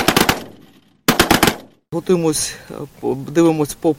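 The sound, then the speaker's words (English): Two quick bursts of loud, rapid machine gun fire, each lasting about half a second with a short pause between them, fired during practice by a women's mobile air defense unit training to shoot down Russian drones, followed by a man speaking. “We are practicing now.”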